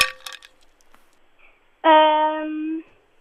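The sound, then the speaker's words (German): A few quick, bright clinks of ice cubes against a glass, then quiet, followed by a loud, steady electronic buzzer tone lasting about a second. “Leider die Eiswürfel.”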